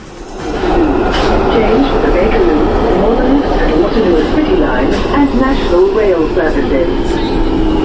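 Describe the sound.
A steady, loud rumble of a London Underground train running underground, with a dense roar of wheels and machinery and fainter voices mixed into the din.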